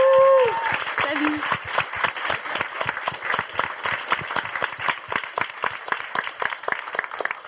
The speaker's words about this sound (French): On applaudit très fort Mélissa Bounoua.